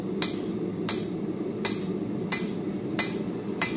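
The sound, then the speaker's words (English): Six sharp metallic hammer strikes on hot iron on an anvil at a steady, even pace, each ringing bright, over a low rumbling background hum with no talking; the last blow finishes the piece. “You know, that last hammer blow.”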